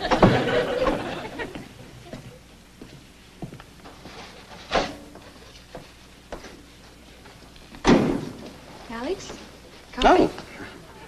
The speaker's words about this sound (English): Oh. You used the door like an ordinary mortal. Why didn't you just pass through the wall?